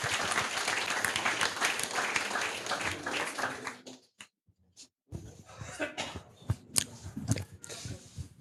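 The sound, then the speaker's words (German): An audience applauds a team coming forward to present the project V-Vote, with dense, steady clapping for about four seconds, then it breaks off into a brief lull followed by a few scattered claps and soft knocks. “Ein herzlichen Applaus.”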